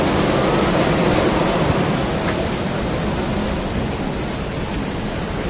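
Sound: rain falling outdoors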